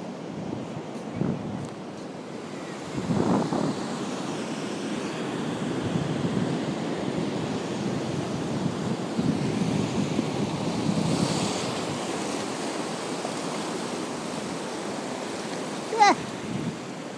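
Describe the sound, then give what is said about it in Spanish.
Sea waves wash in with a steady, rushing roar that swells and recedes in gentle surges, with wind buffeting the microphone and a brief sharp splash near the end. “¡Que viene el agua!”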